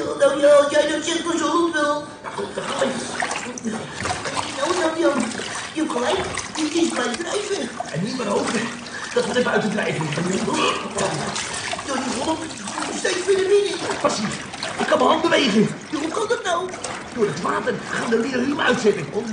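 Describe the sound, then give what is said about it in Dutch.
Rising water splashes and churns continuously inside a cave, loud, with a busy, sloshing texture that never lets up; indistinct voices seem to mingle with the rushing water throughout. “Kom op, anders wordt het water nog hoger.”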